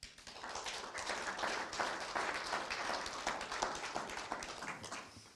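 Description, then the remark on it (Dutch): An audience at a municipal commission meeting applauds after a presentation, with dense overlapping claps forming a continuous crackle that holds at an even level for several seconds before tapering slightly at the end. “Ik wou wel zeggen applaus, maar dat deden ze uit zichzelf allemaal al.”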